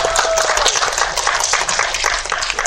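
A crowd applauds steadily, dense overlapping claps forming a loud, even wash of noise that holds without a break for the whole stretch.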